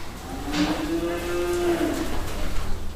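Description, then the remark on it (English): A single long, low moo from a Holstein or Jersey cow in a barn at Brueggemann Farms outside Milwaukee, as the cows are prepared for evening milking; steady and drawn out for over a second, with a constant hum and faint barn noise around it. “prepares Holstein and Jersey cows for their evening milking.”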